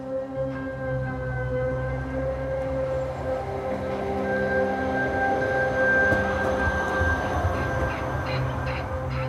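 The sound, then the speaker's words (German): A red-and-white line 5 tram rolls along its tracks through fields near Leuna, Germany, early in the morning, on the route from Halle to Bad Dürrenberg, with a steady electric motor whine over a continuous low rumble of wheels, unbroken throughout, with no voices. “Eine rot-weiße Straßenbahn der Linie 5 schiebt sich durch die Felder bei Leuna.”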